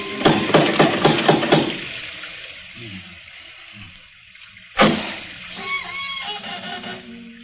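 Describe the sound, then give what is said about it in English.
A door knocker strikes about six loud, quick raps in a steady rhythm, then falls silent. A few seconds later a sudden burst of noise breaks in, followed by faint clattering and murmuring. “There isn't a bell on this door. There might at least be a knocker. Ah, got it.”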